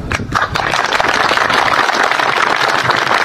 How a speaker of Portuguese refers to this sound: Hoje fazem 3 meses que nós perdemos a vice-presidente da Apecai, a Eliane Faé. E Então a gente vai fazer essa homenagem para ela. E a gente sente muito, né, a perda dela. Então, assim, eu gostaria que todo mundo desse uma salva de palmas.